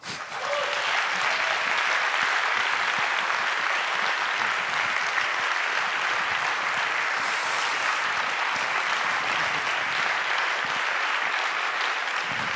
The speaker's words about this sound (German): aber ich bitte euch nochmal zu klatschen, weil mindestens einer von Fossil Free Berlin ist heute hier im Saal, der mitgearbeitet hat daran, dass Berlin, was die Pensionsfonds angeht, fossilfrei geworden ist und das ist sein Applaus.